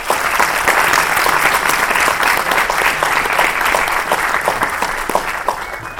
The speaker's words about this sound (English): And we will thank them with a round of applause.